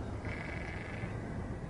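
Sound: sheep bleating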